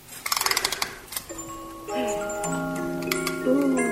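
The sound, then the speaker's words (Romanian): A stopped mechanical clock is wound, making a quick run of mechanical clicks like a spring being wound, then gives way to a soft, sustained chiming melody, an old waltz, that plays on alone until the end. “Da, ceasul de acolo văd că a stat. Am să-l întorc.”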